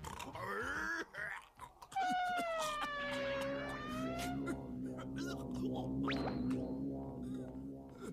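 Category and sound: vocal imitation, voice imitating a roar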